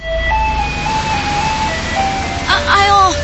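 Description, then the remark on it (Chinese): A garbage truck's electronic jingle plays a simple, tinny melody in sustained notes, fairly loud and steady, with a voice briefly cutting in over it near the end. “垃圾车又走掉了啦，只好摸黑偷偷把垃圾塞到公有垃圾桶去，不然叫我们这些加班进修的人怎么赶得上收垃圾的时间啊。”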